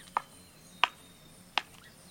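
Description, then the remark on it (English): A northern flicker woodpecker, clinging halfway up an old dead tree, chisels a nest cavity with its bill, chipping out a round entrance hole 3 inches across: three sharp, woody taps spaced a bit under a second apart, distinct against a quiet background. “A woodpecker, a northern flicker, is carving out a nest cavity.”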